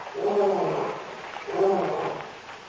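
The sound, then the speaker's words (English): Two drawn-out, moaning roars from a lion, one after the other with a short pause between, rising and then fading, with no talking. “Lion? Yes. Lion here?”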